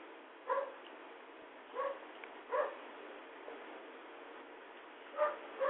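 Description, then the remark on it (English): One of a household's pet dogs barks in short, sharp bursts, about five barks spread unevenly over a few seconds, moderately loud against a steady background hiss with no talking. “I think I'm going to play one more song because we have a little technical difficulty in the background called My Pooches Are Barking.”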